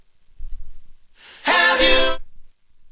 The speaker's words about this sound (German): Die atmen erstmal ein.